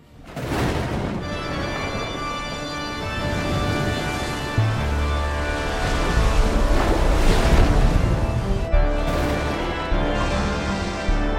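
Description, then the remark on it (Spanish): Heavy sea waves surge and crash against the hull of the Flying Dutchman in a continuous rushing wash, swelling louder midway, while sustained organ chords drone steadily over the churning water, in the second Pirates of the Caribbean film. No voices are heard. “Las olas del mar rompiendo contra el casco también del holandés errante, ya que esta película concretamente es la segunda película de Piratas del Caribe,”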